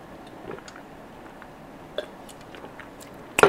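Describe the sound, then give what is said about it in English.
Quiet mouth sounds of someone sipping water and swallowing: faint wet clicks and gulps scattered across a few seconds, ending in a slightly louder slurp. “Just let me get a slip of water, please.”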